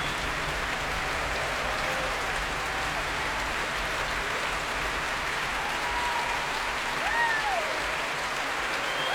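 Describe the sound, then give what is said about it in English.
Sustained applause from a large audience at the Royal Albert Hall as Valery Gergiev returns to the stage and the young players are brought to their feet, a steady dense wash of clapping that stays loud and even throughout, with a faint voice briefly surfacing near the end. “So the huge acclaim of the crowd here at the Royal Albert Hall.”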